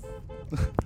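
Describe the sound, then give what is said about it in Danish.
A car horn, honked by the driver, sounds with a steady, droning tone lasting a moment, followed by a quick burst of rustling and a short thump. “Så dytter vi lige her.”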